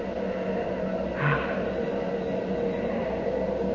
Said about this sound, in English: Hear those rocket engines? Yes. Nearly 1,000,000 pounds of thrust. Oh. They're ripping Pegasus 4 loose from Earth's gravity.